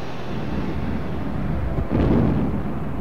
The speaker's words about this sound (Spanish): Durante el evento y en el centro de la cancha fueron colocados globos con gas helio. Cerca de ellos, las jóvenes porristas tomaron sus lugares, cuando de pronto una fuerte explosión ocurrió.